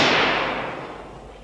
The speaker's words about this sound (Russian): Что это? Хорошо ли я вас слышал? Ваша светлость, не слышали ли вы выстрела? Вот опять.